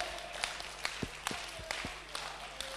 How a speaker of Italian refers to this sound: Vogliamo applaudire il Re.